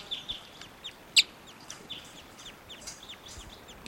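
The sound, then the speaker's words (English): Wild type 2 fowl cluck and cheep softly, a scatter of brief high-pitched calls with one sharper, louder note partway through, over a low steady hiss with no voices. “Wild birds are type 2.”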